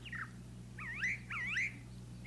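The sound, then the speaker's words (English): A brown thrasher sings a run of varied, slurred whistled phrases in quick succession, clear, over a low steady hum with no voices. “That's a brown thrasher.”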